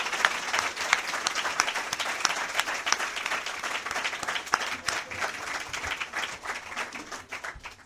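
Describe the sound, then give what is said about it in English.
An audience at a candidates' debate applauds steadily for several seconds, welcoming the Republican and Democratic candidates to the podium, many hands clapping in a dense, sustained wash that stays fairly even before tapering slightly toward the end. “There will be an opportunity to thank them with applause again at the end, but in between, during the debate, please refrain from applause and other outward expressions of your feelings, although I know that will be difficult.”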